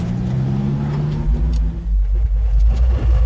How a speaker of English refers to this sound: cuts quite a figure in his ancient truck, slowly winding through the streets of Canarsie, making his deliveries. My top speed will be about 15, that's it. Once you get behind me, forget it.